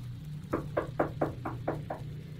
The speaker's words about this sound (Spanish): Alguien tocó la puerta, pero yo no quería despertar.